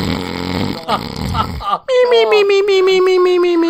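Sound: voice imitating snoring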